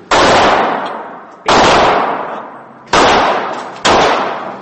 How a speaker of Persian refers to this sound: سفیر 4 یا 5 گلوله سکوت را شکست. گلوله هایی که قاتل مارک دیوید چاپمن از یک تپانچه کالیبر 38 شلیک کرد و همانجا به انتظار پلیس ماند.